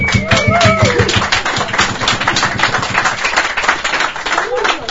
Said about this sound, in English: So we'll make a double clap if you're in here.